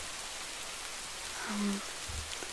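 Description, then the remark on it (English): Rain starts and falls steadily with a soft, even hiss that fills the whole stretch, fairly quiet, with a faint low hum and a dull thump briefly rising beneath it near the end. “Yeah, I saw it starting to rain during the fighting going down”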